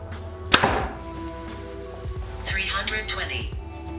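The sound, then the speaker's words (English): A Hoyt Ventum 30 compound bow, set at 70 pounds with a 29-inch draw and 85% let-off, fires an arrow with a sharp, loud snap and twang, followed by a brief ringing hum; a man's voice is heard talking afterward. “All right, guys, Hoyt Ventum 30, 70 pounds, 29 inches of draw. We're starting out with the 85% let off, and we'll go ahead and test it.”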